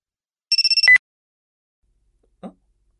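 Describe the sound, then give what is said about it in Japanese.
A short electronic phone ring: a rapid trill of about five bright beeps lasting half a second, cut off by a click, followed later by a faint soft thud. “あ、電話鳴ってるよ。”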